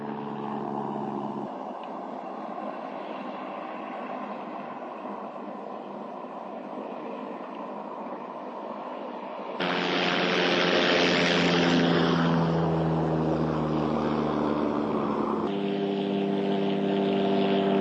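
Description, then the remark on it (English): A loud, steady propeller-plane engine drone fills the whole recording, jumping to a louder, brighter roar partway through as the aircraft seems to pass overhead, then easing slightly. No voices. “Just like a plane.”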